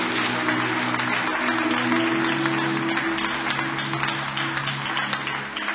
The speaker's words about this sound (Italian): Facciamo un applauso a Gesù per favore.